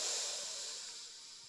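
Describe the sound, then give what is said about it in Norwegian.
A long, slow breath drawn in through the nose during a guided relaxation exercise for sleep, heard as a soft, airy hiss that holds steady and gradually tapers off, with no talking. “Da puster vi godt inn med nesa en gang til.”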